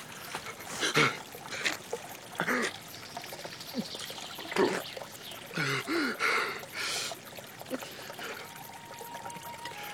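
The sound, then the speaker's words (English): Spring water burbles and trickles from the earth at the foot of an ilex tree in irregular gurgling bursts, fairly quiet, rising and falling in strength without a steady rhythm. “The spring burbled from the earth with a little more force for a brief moment as the traveler,”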